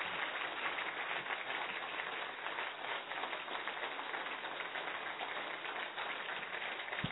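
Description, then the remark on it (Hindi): A crowd claps 25 times together for a 25-year celebration in a steady, fast rhythm. The dense clatter of many hands holds an even volume for several seconds, with no voices over it. “बिल्कुल, क्योंकि कैसे करना है और क्या करना है और किस तरह से हम 25 साल मनाएंगे, तो 25 ताली एक बार बजा दें जब तक वो आ रहे हैं। 25 क्लैप्स।”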